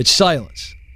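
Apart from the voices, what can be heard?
cricket chirping sound effect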